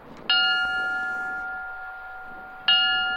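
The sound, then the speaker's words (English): A memorial bell is struck twice by a fire department honor guard at a remembrance ceremony in Moore, Oklahoma, marking one year since a deadly tornado; each clear metallic toll rings out and fades gradually before the next, over a faint low background hush. “At a remembrance ceremony, the Moore Fire Department Honor Guard rang a bell 25 times, the number of people killed last year.”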